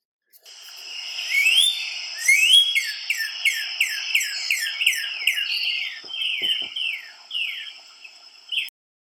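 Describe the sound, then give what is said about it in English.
A northern cardinal sings a loud series of clear, slurred whistles, over a dozen quick downward-sweeping notes repeated in a steady rhythm, then a few slower phrases, with no voices. “The song of the cardinal is easy to identify as it sounds as if it is saying birdie, birdie, birdie, or cheer, cheer, cheer.”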